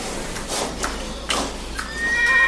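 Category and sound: animal, horse neighing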